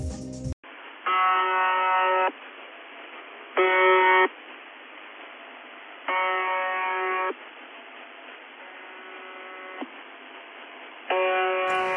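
Harsh, buzzing shortwave radio station buzzer tones with stacked harmonics sound in bursts of uneven length over a constant band of static hiss, one buzz noticeably fainter than the rest, with irregular gaps where the buzzer skips.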